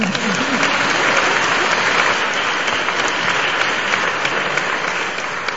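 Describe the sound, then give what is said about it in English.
An audience claps steadily for several seconds, a dense, continuous wash of many hands at a fairly loud, even level with no break. “So let us give a clap for him.”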